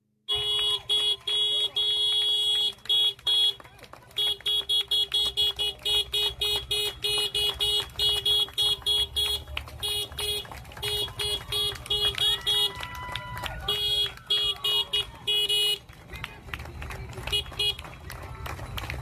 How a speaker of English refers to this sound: But at 8 o'clock, you can just get right out, join the crowds, and cheer the NHS. Here's a scene from last evening at Westminster Bridge, clip 8.